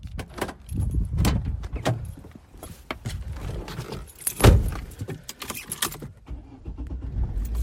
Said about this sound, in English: Just got in the car to head to Vicarage Road,